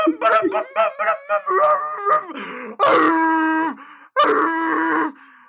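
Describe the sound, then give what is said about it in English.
A voice imitates a tornado siren alert tone: a run of short, choppy vocal bursts, then two long, steady, buzzy sustained tones like a siren, each ending abruptly, loud and with no other talk. “Oh wait, no, that's like a tornado siren.”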